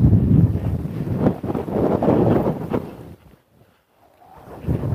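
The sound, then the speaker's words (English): Strong, cold wind buffets the microphone in loud, rumbling gusts as the person walks straight into it. It drops to a brief near-silent lull, then starts roaring again at the end. No one speaks. “The wind on my ears is... And I'm walking straight into it, so even putting the hood up isn't going to help.”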